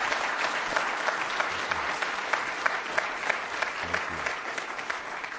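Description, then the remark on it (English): Sustained applause from an audience welcoming author Russell Banks, dense overlapping hand claps forming a steady, bright wash of sound with no pauses, holding a fairly even loudness throughout. “I think they're all clapping their hands to warm them up.”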